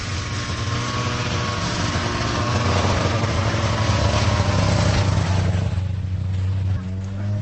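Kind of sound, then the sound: vehicle, snowmobile engine running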